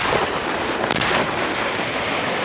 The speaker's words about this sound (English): used to fire a rocket launcher called the Shoulder-Launched Multipurpose Assault Weapon, or SMA. Left, right, back blast, arrow clear, rocket!